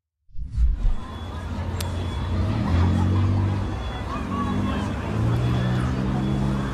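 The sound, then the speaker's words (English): A busy street scene in Chicago as a group of people jump on cars and run across traffic, a crowd clamoring amid steady traffic rumble and engine noise, loud and continuous throughout, with indistinct voices mixed into the din. “Here is a video of one group jumping on cars and running across traffic in Chicago.”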